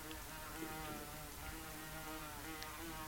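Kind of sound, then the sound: insect, wasp buzzing nearby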